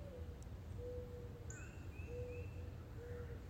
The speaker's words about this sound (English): There's the dove, I've heard robins and woodpeckers, I mean, lots and lots. I'm loving this.